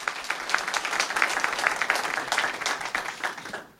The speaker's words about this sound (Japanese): どうぞ皆様大きな拍手をお願いいたします。